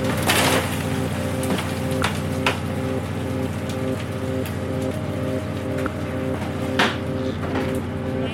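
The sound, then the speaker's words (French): Live langoustines wriggle and click on a fishing boat in scattered, irregular wet snaps and rustles, over the loud, steady drone of the boat engine. No one speaks. “On entend les langoustines qui frétillent.”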